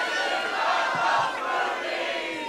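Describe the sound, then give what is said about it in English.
The audience at a live show roars and cheers loudly and continuously, with at least one high-pitched scream from an audience member rising above the din for a couple of seconds. “Wait, who was it that just screamed?”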